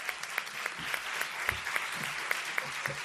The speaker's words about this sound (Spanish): guitarrista, por favor, un aplauso también para él.